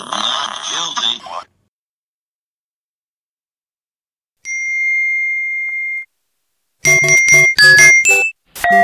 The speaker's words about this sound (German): Ding, na, habt ihr gerade zum Handy gegriffen, weil ihr euren Standard-SMS-Ton nicht geändert habt? Ja, ihr wurdet reingelegt von Radio Korax, ihr habt keine SMS bekommen, das kam aus dem Radio.